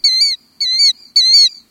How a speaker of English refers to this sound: The killdeer, a common shorebird, often uses this alarm call when predators approach its nest.